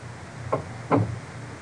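A door swings shut: a light click followed half a second later by a heavier, low thud, then quiet room tone with no voices.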